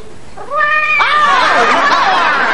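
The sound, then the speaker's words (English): A loud, drawn-out cat meow from a preserved pet cat, a deluxe model with an activated meow, wavering and sliding downward in pitch over about two seconds, with no talking over it. “It's the deluxe model with the activated meow.”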